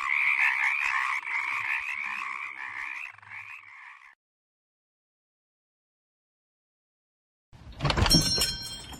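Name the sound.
many frogs croaking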